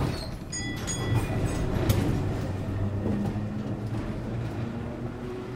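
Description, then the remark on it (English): A tram heading to Broadway rolls along its rails with a steady low rumble and clatter, thin metallic squeals ringing out near the start, the noise continuous throughout. “Then he left his office and took a tram to Broadway.”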